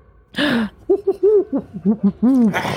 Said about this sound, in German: Na toll, jetzt haben wir sie aufgeweckt. Ist halt eine Eule.